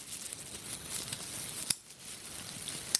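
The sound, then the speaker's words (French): Crisp plastic clicks from a four-color pen, snapped in an irregular crackling patter over a soft hiss, with a couple of sharper snaps standing out, imitating pieces of coal crackling in a fire. “je t'invite à faire claquer ce stylo 4 couleurs en même temps, parce qu'il y a toujours des petits morceaux de charbon qui craquent.”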